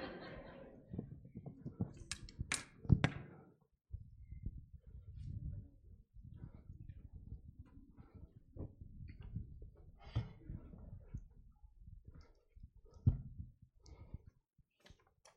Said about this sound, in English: Why don't you grab that chair and pull it up, and I'll grab a chair and we'll pull it up.